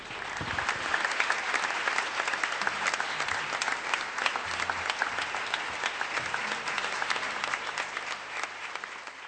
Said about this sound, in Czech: Potlesk si nezasloužím.